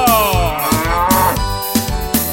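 A cow moos loudly and steadily for about two seconds, a low, drawn-out bellow with a harmonic tone, heard alone with no talking over it.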